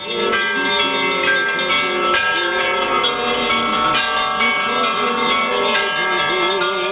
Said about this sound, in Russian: После литургии верующие под радостный трезвон колоколов обошли вокруг храма крестным ходом.